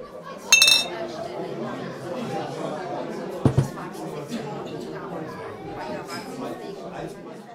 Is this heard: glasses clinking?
yes